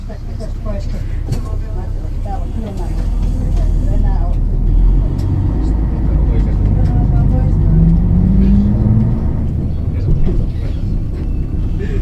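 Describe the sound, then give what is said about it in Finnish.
Steady low engine rumble of a bus interior, with a gear whine rising as it accelerates around the middle; indistinct voices murmur early on over the constant road noise. “Sinne täytyy nyt kyllä lähteä vähintäänkin kahdella bussilla.”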